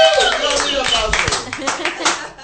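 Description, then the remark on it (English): A loud burst of canned applause from a clap track sound effect, dense clapping with whooping, cheering voices rising over it, sustained for a couple of seconds before tapering off. “I heard that they actually love that clap track.”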